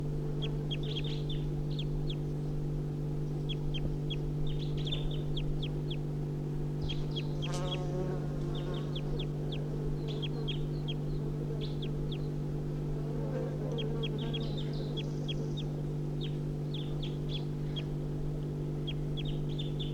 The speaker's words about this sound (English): Recording the wild birds giving flight calls now. It's 8:52.